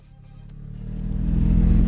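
A snowmobile engine revs up and grows steadily louder over a couple of seconds, a deep, rumbling drone with no voices, as rescuers set off in fog toward Rtanj to reach an injured person.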